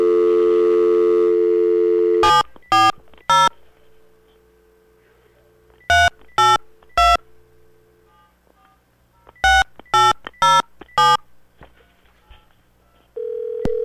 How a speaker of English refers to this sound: There we go. Now we got a dial tone. Here we go.